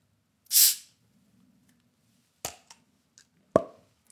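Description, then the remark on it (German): A beer bottle is opened with one brief, bright hiss of escaping gas, followed after a pause by a few sharp glassy clinks and taps over a faint low hum. “Von Geräusch. Ach so. Öffnungsgeräusch.”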